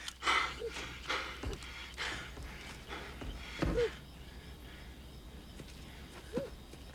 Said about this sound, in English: Throwing a shot through the window, he runs round the house, then standing flat against the cabin with his gun raised, he catches his breath.